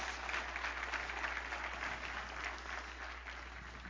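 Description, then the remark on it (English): An audience gives a clap offering, applauding steadily, a dense wash of many hands clapping at once that tapers slightly toward the end, with no voices standing out. “Give him a good clap offering.”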